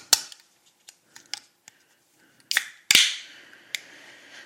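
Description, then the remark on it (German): A few light metallic clicks and taps, then a sharp crack as the tab of a shaken, non-carbonated can of Monster Rehab Peach Iced Tea is pulled, followed by a short, weak hiss that fades quickly. No one speaks. “Keine Kohlensäure, deswegen ein sehr jämmerliches Plop heute.”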